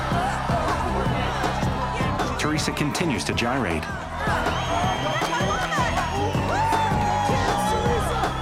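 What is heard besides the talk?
crowd cheering and whooping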